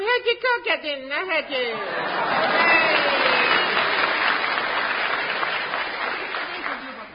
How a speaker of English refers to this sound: Pauses for audience applause. Continue that. I should have said that before when you clapped earlier.